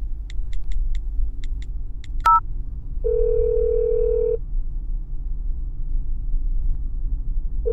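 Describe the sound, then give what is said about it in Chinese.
Soft keypad beeps and a short chirp give way to a phone ringback tone as a call to the caller's husband goes unanswered: one steady ring, a long pause, then the next ring begins, all over a low rumbling hum. “哎，老公为什么也不接我的电话呀？”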